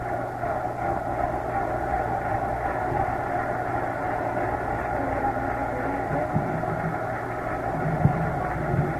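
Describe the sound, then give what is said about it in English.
A hockey arena crowd at a Montreal versus Minnesota game, with 1:26 left, roars in a steady, dense wash of noise that holds for the whole stretch, with a brief louder burst near the end and no voices standing out. “Listen to that crowd.”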